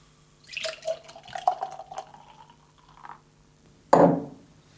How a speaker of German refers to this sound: Schenken das jetzt mal ein. Normalerweise sollte man noch ein bisschen was hören.